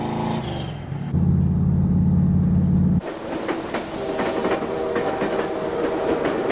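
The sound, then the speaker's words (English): A moving train rumbles with a deep steady drone, then breaks into loud clattering of wheels over rails with rapid irregular clacks and metallic rattling. “On the train, Luke stands bare-chested between cars to cool down.”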